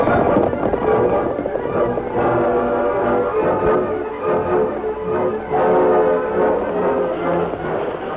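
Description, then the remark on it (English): The horses of an outlaw gang gallop hard over a rise in pursuit of the Lone Ranger on his white horse Silver, a fast, continuous drumming of hooves, loud, surging and easing slightly as the pack thunders past without any voices. “Lone Ranger looked back at the outlaw gang as they swept over the rise after him.”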